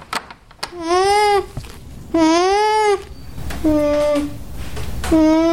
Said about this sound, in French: Dans cet élevage, ces petits cris résonnent du matin au soir. C'est le humming, le son produit par l'alpaga.